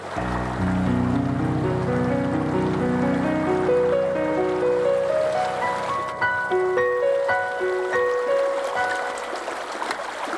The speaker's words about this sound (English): Flowing water is one of the most powerful forces on Earth. Even a little bit like this can make a huge difference.